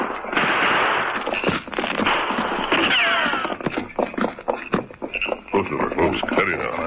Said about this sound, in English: We'll lead the horses back into that thick grove. The trees will give us some protection.